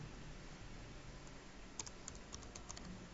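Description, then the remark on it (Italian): Someone types code on a computer keyboard, a short burst of about half a dozen crisp key clicks in the second half, over a low steady background hum. “Non mi viene il punto perché nella mia tastiera il punto si assomiglia almeno.”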